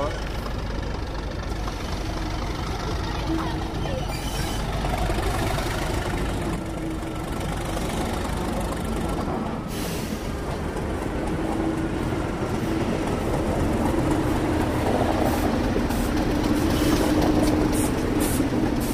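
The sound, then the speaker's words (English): Locomotive 37175 rumbles steadily as it approaches and passes a signal box, its loud, continuous engine drone with clanking rail noise filling the whole stretch, swelling slightly toward the end. “Here it comes, just passing a signal box. We'll stop now. Thank you. Listen to it coming by.”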